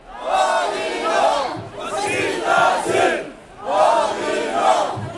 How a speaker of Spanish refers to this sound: Gritan mezquita sí, odio no, mientras sujetan pancartas en las que leemos: nos habéis quemado la mezquita, pero no la dignidad, o no es un incendio, es un delito de odio.